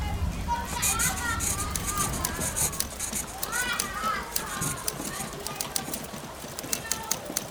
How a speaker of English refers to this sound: The sewing machine clatters and someone types while young girls play jackstones and read stories aloud.